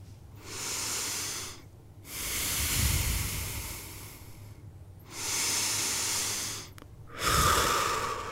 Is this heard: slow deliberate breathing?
yes